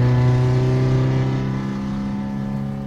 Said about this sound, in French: On va relativement doucement parce qu'on est encore à l'agglomération, on ne peut pas aller trop vite. Pour le moment, on va tirer que 6000 tours parce que la voiture est froide.